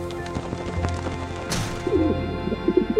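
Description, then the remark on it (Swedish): A white dove lands outside a window: a brief rustling flutter midway, then it coos in low, wavering bursts toward the end, soft. No one speaks. “En duva landar utanför fönstret.”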